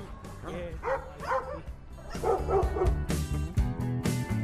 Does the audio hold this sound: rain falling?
no